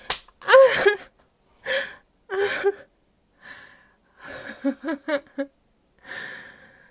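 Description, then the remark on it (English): A single sharp slap of a hand on a bare buttock rings out, followed by a string of breathy gasps and short vocal exhalations, with no talking. “Grab this ass, slap this ass.”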